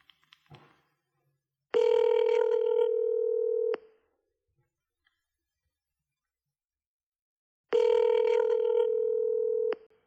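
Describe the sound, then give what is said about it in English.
A phone ringback tone purrs twice while calling a DJ friend, each steady two-second buzz separated by a long silent pause, clear with no voices over it. “I'm not a DJ, but many of my friends are DJs, so maybe I should call one of my DJ friends.”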